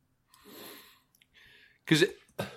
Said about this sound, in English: excuse me. I'm coughing.